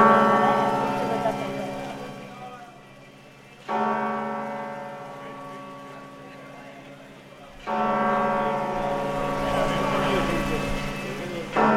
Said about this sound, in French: Et les cloches sonnent à la cathédrale de Santiago pour l'arrivée de Sophia. C'est pas magnifique ça.